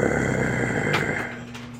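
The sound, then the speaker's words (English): A man imitates the growl of a dog guarding a bone, one low, rough, rumbling snarl held steadily for a couple of seconds, fairly loud, with no words spoken. “And he would start to growl.”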